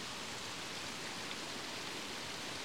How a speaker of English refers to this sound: And it's a series of little eddies of water cascading over that tougher rock, which is clad in this soft, bouncy moss. The water is trickling down into the pool at the bottom, separated by two waterfalls.